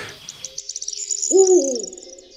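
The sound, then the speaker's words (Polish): An owl gives a single drawn-out, wavering hoot, rising and falling over about half a second, while faint high bird chirps flutter steadily in the background. “A generalnie sowy tej nocy także huczą?”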